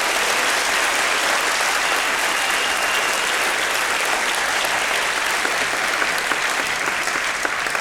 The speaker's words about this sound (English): Once more, applause for Professor Ilan Papa. Thank you.